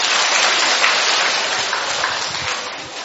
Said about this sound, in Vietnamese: Rồi, một tràng pháo tay thưa anh chị em.